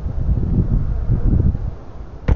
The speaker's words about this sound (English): I mean, the skies are gray. Skies are gray and it's a little windy, but you know, that's just regular weather.